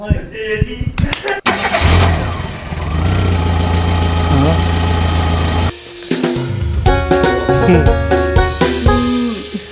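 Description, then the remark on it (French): A car engine idles with a steady low rumble during a short car ride, briefly cutting out midway before resuming, with scattered clunks and indistinct voices over the hum. “Et voilà, c'était un petit tour en voiture qu'on a fait.”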